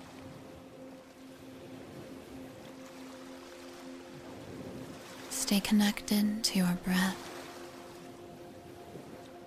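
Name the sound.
ocean waves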